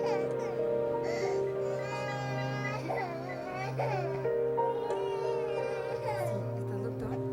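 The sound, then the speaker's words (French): An 11-month-old baby boy, burning with fever while recovering from chickenpox, fusses and cries in continuous wavering wails, the pitch rising and falling in short bursts, fairly loud with no speech; Arlington, Texas, in 2000. “Il est brûlant de fièvre et ne cesse de pleurer.”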